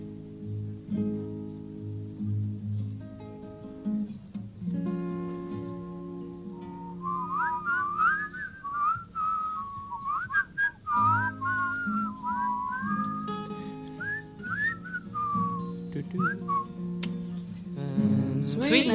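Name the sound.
person whistling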